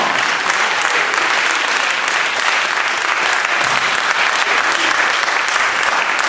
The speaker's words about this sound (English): Hallelujah. Let's give God a hand clap of praise if you know who you are.